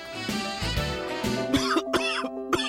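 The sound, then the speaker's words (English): A person coughs several times in a harsh, chesty burst, each cough sharp, repeated in quick succession with a steady background tone underneath and no speech. “Why does this cough make me feel like my lungs are going to come out of my chest?”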